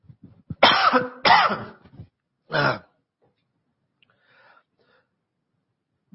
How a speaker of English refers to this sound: Sorry, I'm going to cough here